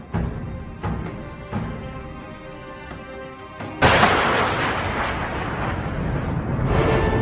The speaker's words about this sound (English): we've got an explosion.